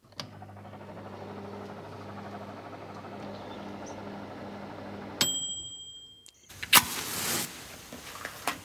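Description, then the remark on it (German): A microwave oven hums steadily for about five seconds, then gives a short, sharp beep as it stops, followed by its door clunking open and some handling noise. “Ja, also, das erste war eine Mikrowelle.”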